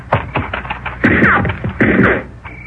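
gunshots

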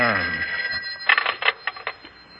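telephone bell ringing

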